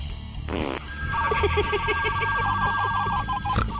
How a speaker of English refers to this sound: Is that the fart phone? Yeah. Was that the fart phone? That was the fart phone. I want to hear that again. It's the fart phone.